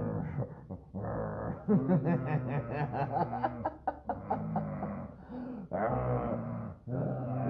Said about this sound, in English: Same sound that Molly makes. That's cool. So that's exactly the sound my dog makes when I hug her. Yeah. She's like, get off of me.